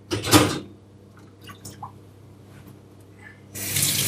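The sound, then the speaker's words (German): Water sloshes and splashes as soaked kitchen items are moved around in a bowl of water before going into the dishwasher, with a loud burst at the start, a few small drips and clinks, then another rush of splashing at the end. “Genau, ich hatte alles hier mal kurz eingeweicht in der Schüssel, die ohnehin mit Wasser drin stand.”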